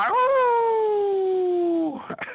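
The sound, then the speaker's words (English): A person imitates a hound dog's howl with one long, sustained, slightly falling vocal tone that holds steady for nearly two seconds, then breaks off into a short, rough trailing sound. “and we like our guests to close us out with their best old hound dog howl.”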